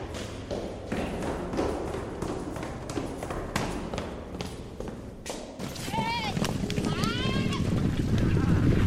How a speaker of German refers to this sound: Draußen sind wir zum Beispiel auch die Treppen runtergerannt und dann haben wir das aufgenommen. Das war ja auch ein Geräusch. Und die Töne haben irgendwie so einen Rhythmus mit dem Rennen. Ich finde den Rhythmus ein bisschen musikalisch.